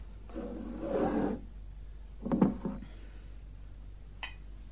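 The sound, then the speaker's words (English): About a second of whiskey splashing and gurgling into a glass, then a couple of dull clunks and a small sharp clink near the end. No one speaks. “Could somebody give Mr. Baxter a glass of whiskey? Here, I'll do it.”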